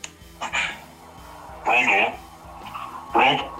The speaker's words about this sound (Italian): Sento squillare il telefono.